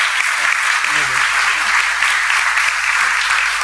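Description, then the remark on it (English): A church audience applauds people standing up to be welcomed into the family of God, loud, dense clapping that stays steady and continuous throughout, with a faint voice briefly audible underneath. “Because we want to clap for you and welcome you to the family of God.”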